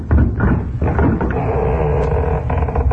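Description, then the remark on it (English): A door is opened at night by someone answering a knock, with a few knocking thumps at the start followed by a long, loud creak and rattle as it swings. “Here comes somebody to the door.”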